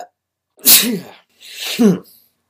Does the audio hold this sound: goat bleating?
no